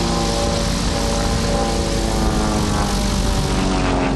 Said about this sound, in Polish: No ciekawe były pokazy spadochroniarzy, bardzo efektowne i piękny pokaz tego samolocika, co przed chwilą tutaj skończył swoje szybowanie.